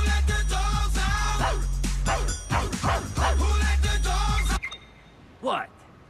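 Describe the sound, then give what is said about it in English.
A loud, bass-heavy pop song with chanted vocals and dog barks over the beat plays on a car stereo for a few seconds, then cuts off abruptly, leaving near silence and one brief tonal sound. “Frank's got the car stereo on. …?”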